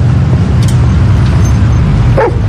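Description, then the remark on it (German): A single short dog bark or yip rises near the end over a steady low rumble like a running car engine or traffic. No one speaks. “bitte, bitte, kannst du den Hund festhalten?”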